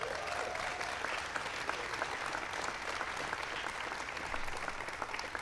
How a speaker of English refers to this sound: So you can give them all a big round of applause.